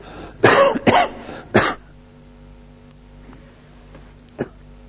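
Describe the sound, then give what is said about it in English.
Three loud, harsh coughs in quick succession from a speaker addressing an audience, followed by a low steady hum and one faint, short cough or throat sound near the end. “For those who are coughing in here, I'm doing it myself.”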